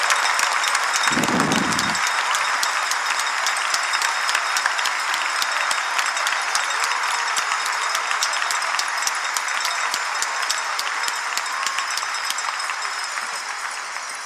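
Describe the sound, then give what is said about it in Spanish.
A large crowd applauds loudly and steadily while bells ring continuously beneath the clapping, the dense noise holding throughout and easing slightly toward the end. No one speaks. The crowd rings bells and applauds the Lord, celebrating that Christ has risen. “¡Venga esas campanas, fuerte, todos! Y los que no tenemos campanas, pues aplaudimos, aplaudimos al Señor.”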